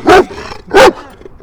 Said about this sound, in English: Alright, so we have Happy Dog enjoying a day out in the park. Because that's where I am today. I'm out at Somerset Park.